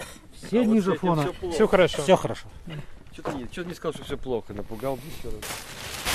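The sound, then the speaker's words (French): Sharp, irregular clicks from a dosimeter crackle as boots are checked with it before getting back into the car, partly buried under a person talking the whole time, with a denser burst of hiss and ticks near the end. “Là, on s'apprête à reprendre la voiture et en fait, on vérifie les bottes avec un dosimètre.”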